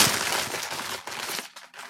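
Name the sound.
paper being crumpled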